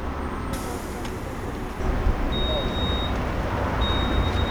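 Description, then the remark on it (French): A city bus heading toward Marengo pulls up at a stop, its engine rumbling steadily as a sharp hiss of air releases while it kneels, with a faint high electronic beep. “Vous voyez, là il s'agenouille.”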